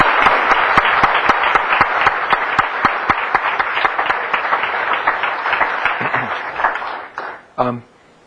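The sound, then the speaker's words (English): A round of applause from a crowd at an annual meeting, given for the staff: dense steady clapping with sharper individual claps standing out, sustained for several seconds before fading out at the end. “I just want to thank all of the staff and would once again lead you in a round of applause for this marvelous group of people.”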